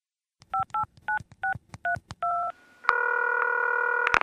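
A quick run of about seven clear telephone keypad beeps, each a short two-note tone, as a phone number is dialed to call a friend, followed by a steady sustained line tone as the call connects. Fairly loud, with no voices.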